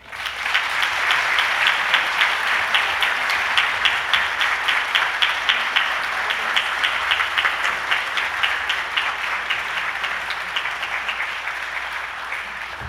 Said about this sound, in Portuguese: A todos, externo a minha gratidão e peço uma calorosa salva de palmas, pois todos nós, servidores, somos merecedores desta homenagem.